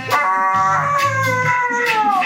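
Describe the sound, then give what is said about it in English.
A dog howls along to music, a long, wavering howl with its pitch sliding slowly downward, with the music playing quietly underneath. “when you hear a dog do that, you remember, you really want to know, is the dog expressing joy, or is that actually a pain reflex? But I think it's probably the dog liking it.”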